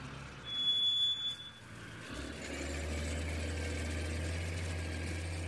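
A crane's heavy engine starts up and settles into a steady, low idling rumble, preceded by a brief high-pitched electronic tone, as the crane is brought in to lift a car out. No one speaks.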